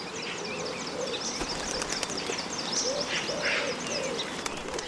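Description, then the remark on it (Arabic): A hoopoe calls while flying, in soft, low hooting notes repeated a few times over a steady background of buzzing insects and high chirping birds. No one speaks. “وبينما كانت مستلقية هناك سمعت الهدهد يصرخ محلقا.”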